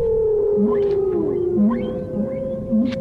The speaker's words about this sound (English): That's a whale, of course. They can't live at these depths.